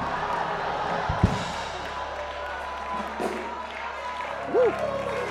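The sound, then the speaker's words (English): A large church audience murmurs and cheers continuously during a sermon, with a sharp hand slap near the start as people high-five their neighbors, and scattered claps and shouts rising out of the steady crowd noise. “Slap your neighbor high five and say, I'm covered by the blood.”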